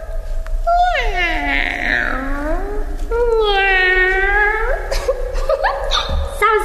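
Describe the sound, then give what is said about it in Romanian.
Two long, drawn-out cat meows, each rising and then falling in pitch, loud, followed by a brief rustling noise at the end. “Îndată o să dea ochii drăgărașii de ei cu signora pisica.”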